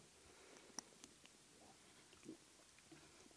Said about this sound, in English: But perhaps a drink of water will be good first.